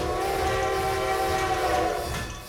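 A train horn blares steadily over the rumble of a moving train, loud and close, sounding continuously and fading slightly at the end.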